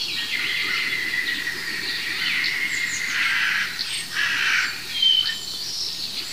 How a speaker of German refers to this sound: Das ist eine echte Krähe.